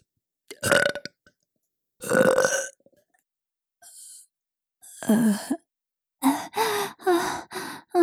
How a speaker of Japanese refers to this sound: おまけのママゲップ行くわよ。